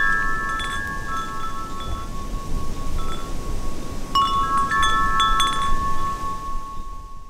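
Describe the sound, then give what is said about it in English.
Wind chimes at a house ring with long, overlapping metallic tones, a fresh cluster of strikes sounding midway, all over a steady rushing wind noise in the background. “That was some wind chimes from my parents' house”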